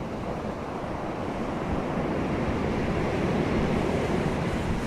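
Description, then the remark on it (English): Steady ocean surf rolls and washes continuously, with a soft ocean breeze blowing across it, heard from a patio, a broad, even rush of water and air with no voices. “And continue to enjoy the ocean breeze, Sandra.”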